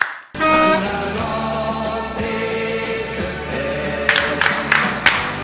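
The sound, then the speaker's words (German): Hands clap together in a steady rhythm, a handful of sharp beats entering near the end over loud, continuous music that plays throughout. “Kaum üben wir es eine Stunde vorher, schon klatschen wir im Takt.”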